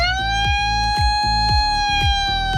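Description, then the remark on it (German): A loud siren wails with a steady, sustained tone, punctuated by regular low rhythmic thumps about every half second, with no voices present; a reporter uses a siren and megaphone in the morning to wake volunteer helpers who slept in a parish centre in Bodenheim, near Mainz. “der hat sie heute Morgen geweckt und zwar mit Megafon und Sirene.”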